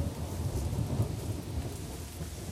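Steady, dense rain hisses continuously, with a deep rolling rumble of thunder underneath. It is fairly loud and unbroken throughout, and no one speaks.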